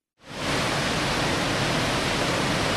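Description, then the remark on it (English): A waterfall about 15 miles north of Ketchikan in Southeast Alaska roars steadily onto a rocky shoreline, a dense, continuous rushing wash that swells in within the first moment and holds loud and unbroken, with no voices. “About 15 miles north of town, Second Waterfall gushes into a rocky shoreline.”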